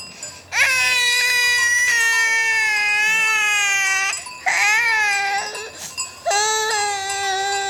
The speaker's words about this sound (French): Est-ce qu'on peut aller écouter le bébé qui vient de naître au Vietnam ?